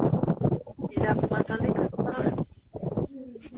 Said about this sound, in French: Y a beaucoup de vent.